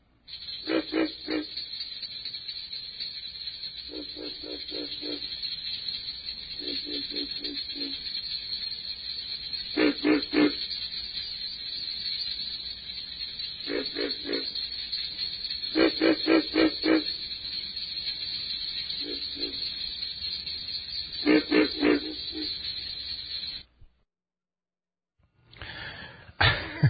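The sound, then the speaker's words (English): Pig frog (Rana grillo) calls from a CD of North American frog sounds: short bursts of deep, piglike grunts repeating irregularly over a steady hissing insect-like background chorus, clear, ending abruptly near the finish. “Tree frog voices are very different in quality from those of the pig frog, Rana grillo, which has internal vocal sacs.”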